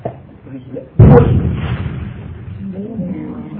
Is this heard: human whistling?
no